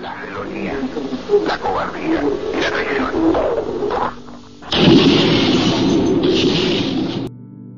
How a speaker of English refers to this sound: Those explosions were recorded in the actual radio broadcast.